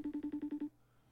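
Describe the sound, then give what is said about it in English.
An outgoing FaceTime call rings: a rapid electronic ringing tone, seven short pulsing beeps at a steady, mid-low pitch, plays clearly on its own and then cuts off into quiet. “By the way, this is an aggressive FaceTime call.”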